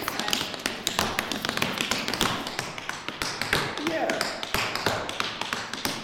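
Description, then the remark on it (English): Rapid, crisp tap dance footwork rattles out in a steady syncopated rhythm, a dense stream of sharp metallic clicks and heel drops forming a time step, loud and continuous throughout. “We'll maybe do a little time step.”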